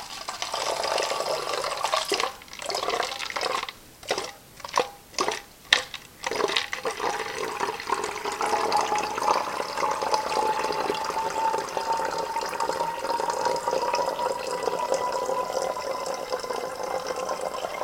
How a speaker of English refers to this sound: This stuff mixes pretty good. It's concentrate, but it's in liquid form. The powders obviously would take more time and effort to mix at 20 degrees. So now I'm just pouring out of the beaker carefully, very carefully.